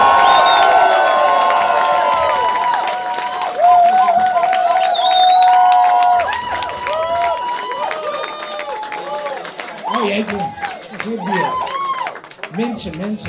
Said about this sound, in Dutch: Graag een warm applaus voor onze lijsttrekker Reinier van Danzig!